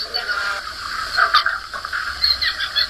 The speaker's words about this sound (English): I think that we're listening to some pink river dolphins. We certainly are. Well, this is a species that's close to my heart.